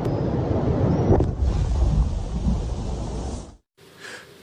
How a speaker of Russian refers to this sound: А это уже один из взрывов мины на берегу неподалеку от станции из-за хлынувшей воды. Часть оборонительной линии российской армии.